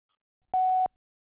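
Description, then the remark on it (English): A single short electronic tone, steady and clean at one pitch, lasting about a third of a second against silence — the beep of an answering machine prompting a message. “I pray that God is blessing your day and that you'll leave me a message after the beep.”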